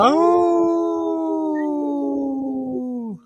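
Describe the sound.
A person imitates a wolf howl with one long, loud, sustained vocal tone that holds steady, then dips and falls away at the end, with no other sounds around it.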